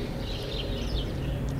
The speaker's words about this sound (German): Das Gärtchen ist eine kleine Oase, mitten in der Stadt. Wie die Vögel jetzt hier und wie die Wilden. Aber es ist schon gleich schön am Morgen, wenn die Vögel hier so pfeifen.